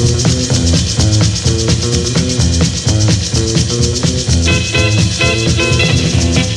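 An instrumental rock and roll record plays at a steady, loud level, with driving drum hits on a quick beat under bright, sustained guitar and horn-like tones, with no voices.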